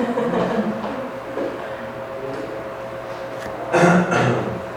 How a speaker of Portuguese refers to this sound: Gostei do pigarro, de novo.